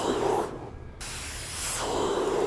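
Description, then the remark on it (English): A voice imitates hissing water spray, like ice pick water spraying at someone, with a steady, breathy rush of noise, briefly dipping in the middle before surging back for a second burst. “It's like that ice pick water spraying at you.”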